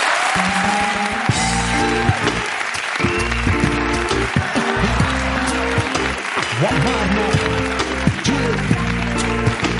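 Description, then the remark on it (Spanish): A studio audience on a TV set claps steadily for about ten seconds for guest Amarna Miller, a dense, continuous wash of applause with a few sharper claps standing out, while voices talk and call out over it. “Tengo que pedir un aplauso para Amarna Miller.”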